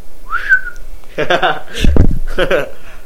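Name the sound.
person whistling a tune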